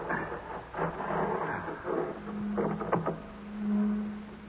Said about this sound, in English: Sounds like a motor of some kind. It's Dr. Madeira's, probably.